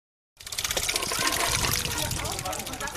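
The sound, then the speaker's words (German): Water gushes and splashes steadily from a children's water play at a daycare centre in Mannheim, Germany, set going by turning its crank, fairly loud, starting abruptly and running continuously, with indistinct voices faintly in the background. “Einmal noch an der Kurbel des Wasserspiels drehen und das Wasser in Schwung bringen.”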